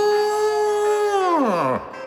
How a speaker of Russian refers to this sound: Розалия, щипавшая траву, подняла морду и издала долгое прощальное мычание.